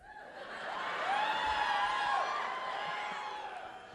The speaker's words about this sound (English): Are you booing Frasier? Millennials don't like Frasier. That's tough. That's tough to hear.